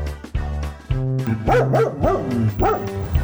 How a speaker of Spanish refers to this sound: Por supuesto, es un perro.